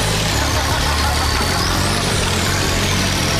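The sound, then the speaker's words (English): A heavy old engine that has just turned over rumbles steadily, a deep, throaty idle with a rough low-end throb and a broad mechanical roar that stays loud and constant throughout. “This thing turned over, it was like this rumbling motor, like it reminded me of like an old like semi or tractor from the farm.”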